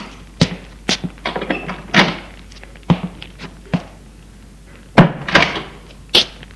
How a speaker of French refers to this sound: Elle arrive au haut des escaliers, tout essoufflée. Elle entend le battement de son corps. Elle ouvre la porte du grenier.